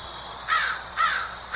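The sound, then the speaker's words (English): Crows caw outdoors in three harsh, raspy calls spaced about half a second apart, clear over a steady faint background hiss, with no talking. “which is probably why the crows are out there excited to see all this mud so that they can get more worms and things and protein to eat.”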